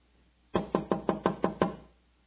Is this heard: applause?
no